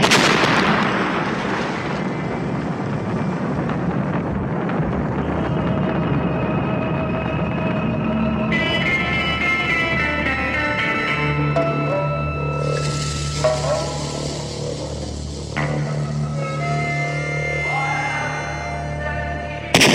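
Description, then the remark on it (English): Loud, deep explosions boom and rumble almost continuously, layered with a roaring low drone and sustained ringing tones: live recordings of three airliners being blown up in the 1970s. The blasts stay heavy throughout, with no voices. “What you have just heard, the explosions in the background, were actually live recordings from three airliners that were blown up in the 1970s by a group known as the Black September.”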